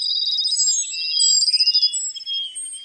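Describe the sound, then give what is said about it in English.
A Cassin's sparrow, a migratory bird, sings a high, clear song: rapid trills followed by sweet whistled notes, fairly loud, with no talking over it. “That treaty and the three that followed, with Japan, Russia, and Mexico, form the cornerstones of our efforts to conserve migratory birds like the Cassin sparrow.”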